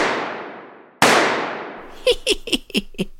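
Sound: gunshots fired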